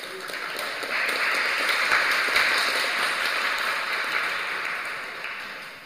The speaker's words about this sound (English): Yes, very nice. We should clap for him.